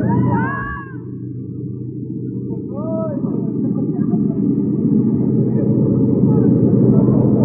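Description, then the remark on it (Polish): A steady, loud engine drone fills an airplane cabin in flight as the plane rocks a lot, a constant low rumble throughout, with a few brief high-pitched voice-like sweeps near the start. “Kołyszę bardzo tym samolotem, ale podejrzewam dlatego, że my po raz pierwszy lecimy.”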